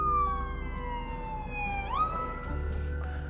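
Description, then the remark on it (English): A police car siren wails loudly, its pitch sliding down and then sweeping back up as the car passes by, with a low rumble of traffic underneath and no one speaking. “And so, let this police car go by.”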